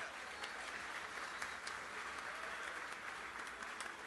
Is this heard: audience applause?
yes